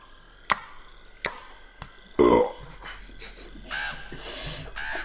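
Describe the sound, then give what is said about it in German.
A voice imitates the sound of a thrown hazelnut hitting a hole and touching undergrowth: three sharp, clicky mouth smacks spaced apart, then a louder wet burst followed by softer, slurpy mouth noises, with no words spoken. “Und dann Schmatzen.”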